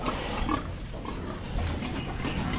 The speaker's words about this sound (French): C'est ce qu'on appelle les truies en liberté. Donc là, je suis tout près d'une truie.